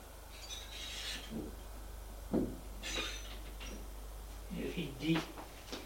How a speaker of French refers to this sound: Arrivée au troisième étage, elle ouvre une porte.